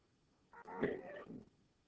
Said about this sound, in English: Excuse my coughing. I won't say it every time. I'm just an old man.